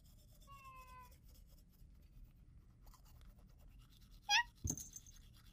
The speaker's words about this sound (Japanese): あ、ご主人様がいました。 どうやらお風呂から出たばかりのようです。今は洗面台で歯磨きをしています。